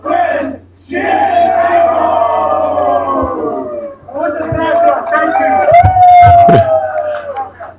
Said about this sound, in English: All right. They chanted together. Right. Well, that's a nice moment of togetherness.